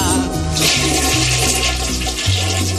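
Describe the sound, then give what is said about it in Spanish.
A toilet cistern flushes loudly, a continuous rushing gush of water with gurgling swirls that holds steady for a few seconds, with no voices over it. “Con gran expectación tras la puerta, la espera fue eterna, hasta que se escuchó el sonido tan característico de la cisterna.”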